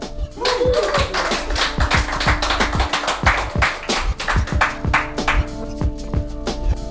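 Applause: a run of sharp, steady hand claps continuing for about seven seconds at a moderately loud level, with a faint sustained hum beneath.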